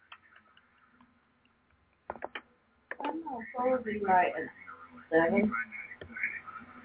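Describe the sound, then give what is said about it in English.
A woman imitates a ticking clock with a quick run of three sharp mouth clicks after a near-silent start, then someone talks over faint clicking that continues in the background. “No, what she's doing is making it sound like a clock.”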